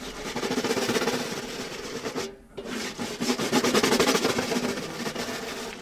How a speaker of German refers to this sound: Aber wir spielen in dem Stück mit einer richtigen Bürste, so eine Handbürste. Und mit der reiben wir über die Trommelfläche und dann klingt das so.